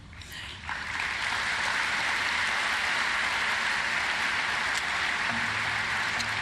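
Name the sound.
audience applause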